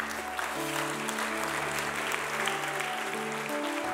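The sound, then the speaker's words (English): An audience at a church gives a round of applause for the pastor after the message, clapping steadily throughout in a dense, even wash with no pauses, while sustained low musical chords hold underneath. “Let's give another round of applause for Pastor Lauren.”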